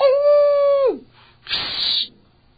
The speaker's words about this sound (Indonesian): Tiba-tiba serigala.